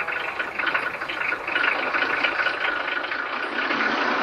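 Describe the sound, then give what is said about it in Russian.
A truck engine runs steadily before the truck drives off, a continuous rumbling drone that holds at an even level for several seconds with no one speaking. “Подняв клубы пыли и напугав курицу, машина уезжает.”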